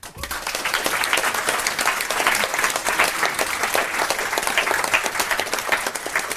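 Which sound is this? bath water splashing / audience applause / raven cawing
audience applause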